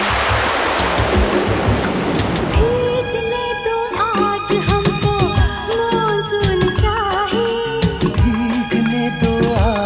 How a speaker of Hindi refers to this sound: चलो भागो डब्बे को धोने वाले आ गए। रात में भी डब्बों की होती धुलाई है, भागो भीगे जाएंगे बरसात आई है।